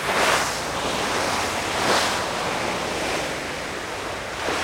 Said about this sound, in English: Here's what sailing into the Southern Ocean sounds like, by the way.